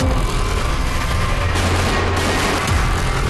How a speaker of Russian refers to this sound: Летел штурмовик, и он просто начал кружиться над аэропортом. Ну, нам казалось, что над нами. И потом начал бомбить по аэропорту. Стреляют!